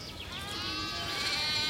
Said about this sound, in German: Ich bewege mich gerade auf Schafe zu. Und ich hoffe, das hört ihr auch. Hört man das schon? Oh, Schafe sind was Tolles. Ja, ich bin mitten in Köln und ja, hier gibt es Schafe.